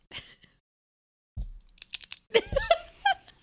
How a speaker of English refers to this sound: Also, if you hear a random clicking noise, it's me trying to drink, but I have lip rings and it clicks. Click, click, click.